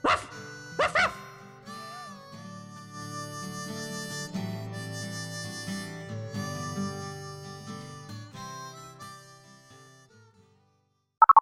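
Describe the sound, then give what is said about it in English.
Droover's dog lets out two sharp barks near the start, followed by a long stretch of sustained whining, howling tones, with a quick burst of rapid yips at the very end. “Woe to you, that bloody Droover's dog. Ruff!”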